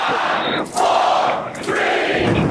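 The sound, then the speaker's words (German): Staff in the SpaceX control center cheering and shouting loudly as the largest rocket ever built lifts off around 8:30 local time in Texas, a sustained wall of excited voices with brief dips before swelling again, continuous throughout. “Immerhin, die größte je gebaute Rakete hat abgehoben, gegen 8.30 Uhr Ortszeit in Texas, unterm Jubel der Mitarbeiter der SpaceX-Kommandozentrale.”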